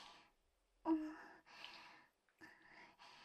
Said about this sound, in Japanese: 息遣いもちょっと荒くなってて、びくって、痛かったですか？